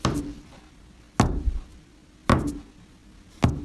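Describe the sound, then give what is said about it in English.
Four heavy, booming footsteps of a Tyrannosaurus rex coming up over a hill, making the ground shake, land at a slow, steady pace, each a deep thud with a rumbling low tail that fades before the next. No one speaks. “Then you hear the huge footsteps coming up over the hill.”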